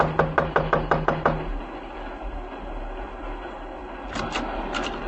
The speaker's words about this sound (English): Just knock on the door.